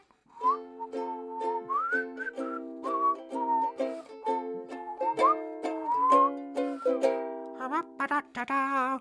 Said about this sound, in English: But there was a epidemic of playing the ukulele sort of wistfully and then whistling.